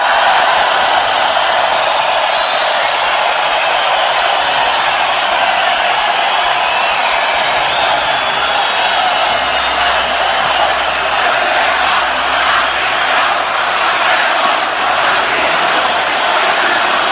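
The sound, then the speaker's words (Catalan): A loud, dense crowd roar of many voices at a rally shouting the political chant "Puigdemont a prisión" while Josep Borrell is on the stage calling for calm and silence. The shouting holds a steady, unbroken level throughout, with a rougher surge toward the end. “Crits de Puigdemont a prisión, precisament quan li cau un altre cop la bandera al damunt de Josep Borrell i demana calma, demana silenci Josep Borrell des de l'escenari i diu, home, no.”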